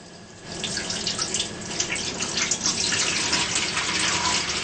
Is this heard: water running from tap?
yes